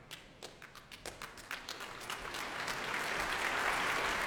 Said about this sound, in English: The spirit of delight currently making his way on stage is Carmine Lowry, the leader of the London Symphony Orchestra tonight, taking applause here at a completely packed Royal Albert Hall.